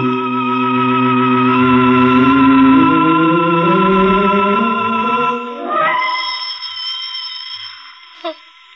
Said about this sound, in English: Still, this isn't anyone. This is the phone. No, I'll let it ring. I won't leave this room. Let it ring. He said the phone was dead.